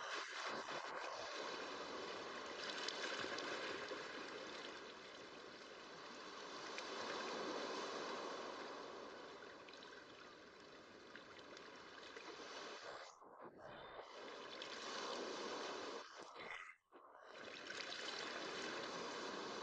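water gently lapping

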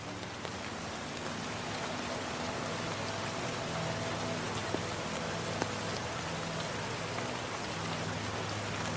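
rain falling

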